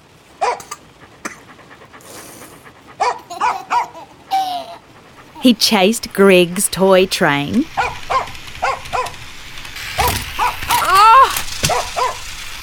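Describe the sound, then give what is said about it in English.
A dog named Skipper, wet from the rain and let indoors, pants in quick, breathy bursts, then lets out a rapid run of high, yappy barks, with a person speaking briefly between and after. “In came Skipper, wagging his wet tail.”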